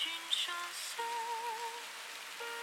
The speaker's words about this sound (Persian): واسه همینه به صدای بارون گوش میدم تا صدای گذشته هامو نشنوم.